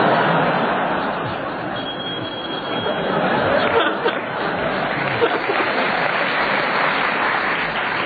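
An audience claps steadily for about eight seconds, a dense, even wash of applause that swells slightly midway, with faint chatter and chuckles mixed in.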